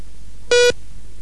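A single short telephone keypad beep, as a number is dialed from a hotel room in London to an office in New York, a loud buzzy electronic tone lasting a fraction of a second, stands alone against a quiet, faintly humming background with no voices.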